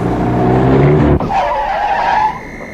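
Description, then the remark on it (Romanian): A car engine roars and then tires screech loudly as the vehicle brakes hard, a sustained skidding squeal lasting over a second before cutting off. No voices. “Ce sare așa în fața mașinii?”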